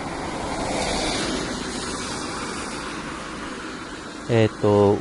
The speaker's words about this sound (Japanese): 今これ車の音がしていることからわかると思いますけれども、車道沿いの結構2車線あるね、車道沿いからお送りしています。